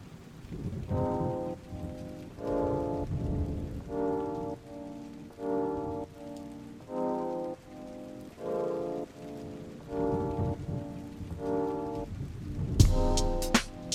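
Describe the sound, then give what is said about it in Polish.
Steady rain hisses throughout, partly masked by a slow, regular pattern of low, droning horn-like tones that pulse on and off, with a sharper crackling burst near the end. “Przesypiam deszcz.”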